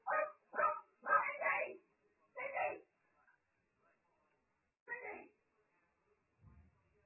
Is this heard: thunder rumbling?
no